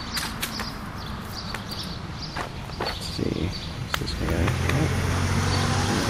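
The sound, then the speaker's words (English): Outdoor street noise with footsteps on pavement as someone walks to the next street, then a vehicle engine rumbles closer and louder near the end as traffic passes by. “Me telling traffic is really bad.”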